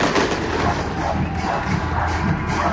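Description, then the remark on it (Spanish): A dense, continuous barrage of fireworks, with crackling and muffled booms blending into a steady roar at a fairly constant loudness, with no talking. “Mientras escuchamos los fuegos artificiales, porque hay que dejarlo ahí,”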